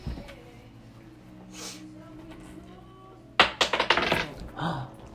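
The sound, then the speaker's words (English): Dice are rolled in a tabletop game to see whether a player's intended action works, clattering across a table in a quick burst of sharp clicks that tumble and settle within about a second, following a stretch of quiet hum and faint murmuring. “Well, you just told me the intent, but now you have to roll the roll dice.”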